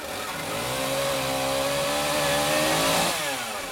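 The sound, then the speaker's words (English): A chainsaw roars loudly and steadily, its engine pitch rising as it bites into wood, then dropping back toward idle near the end, as a city maintenance crew in Reno cuts down dead trees. “They use chainsaws and chippers and turn the dead trees into mulch.”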